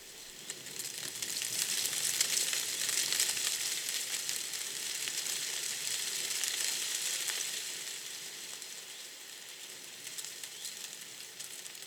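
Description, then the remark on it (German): Poplar leaves, rounded to heart-shaped, hairless and glossy on long, flattened stalks, rustle and tremble in a light wind, a dense, bright, fizzing patter that swells over the first seconds, holds steady, then eases slightly toward the end. No voices. “Dadurch wiegen sich die Blätter gut hörbar im leichtesten Wind und zittern wie Espenlaub.”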